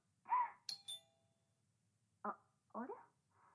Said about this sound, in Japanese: あれ、もしもし、ピンポン来たから一回切るね。